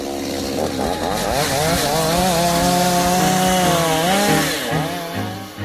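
A chainsaw runs loud for several seconds, its engine revving up and down in a steady buzzing whine, with no voices present.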